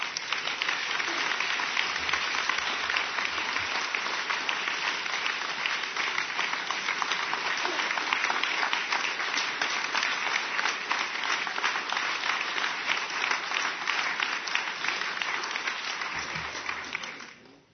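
Sustained audience applause for a book's two authors: a dense wash of many hands clapping steadily at a fairly loud, even level for about seventeen seconds before quickly fading out at the end.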